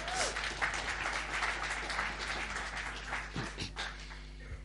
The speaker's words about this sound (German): Vielleicht einen dicken Applaus.